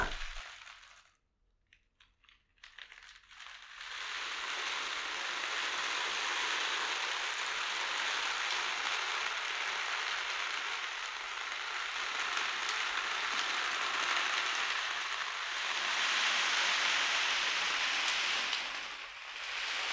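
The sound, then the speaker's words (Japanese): Azuki beans made by the speaker roll and rush in a steady, hissing wash of pellets, swelling and easing like ocean waves, with a brief sparse rattle near the start before the continuous surge; no voices. “私が作った小豆の音だよ。”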